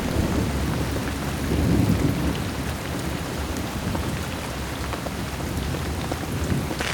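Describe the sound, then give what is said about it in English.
Heavy rain pours down steadily on a garden in a storm while strong wind roars through, with low rumbling gusts swelling and fading. Loud and continuous, with no voices. “A strong wind with rain hits the garden.”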